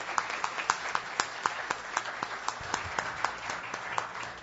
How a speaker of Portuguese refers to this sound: se possível, senhores, vamos dar uma salva de palmas aqui para todos os nossos homenageados, porque realmente vocês nos representam, a nossa população.